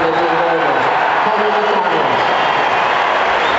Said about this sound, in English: The cheers you're hearing right now, have a listen.